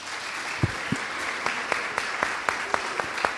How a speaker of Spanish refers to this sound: Bueno, vamos a aprovechar este aplauso para ir a hacer un corte, porque bueno, así son los medios de comunicación, tenemos que hacer un corte de estación.